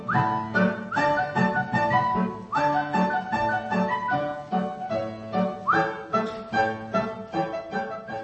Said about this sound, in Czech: Píská a hraje